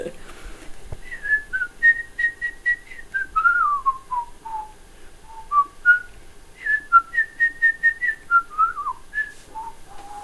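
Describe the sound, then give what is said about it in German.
A person whistles a lively bird-like melody, the bird theme from Peter and the Wolf, with quick trills and runs that rise and fall in pitch. The whistling is clear and alone, without talking. “Nee, das ist der Vogel.”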